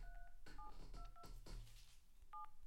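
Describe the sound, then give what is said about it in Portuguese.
A phone keypad beeps out a phone number being dialed to place a call, a quick series of short dual-tone presses spaced irregularly, clear, with a low background hum and no talking. “Puseste isso com som para as pessoas perceberem que estavas mesmo a ligar.”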